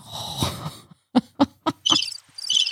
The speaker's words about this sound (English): More crickets.